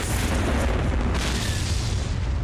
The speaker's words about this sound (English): And that 100-megaton nuclear explosion... That's the Liberal Democrats obliterating the Tories.